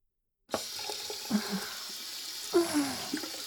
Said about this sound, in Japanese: それじゃあ、水で泡を流しちゃうね。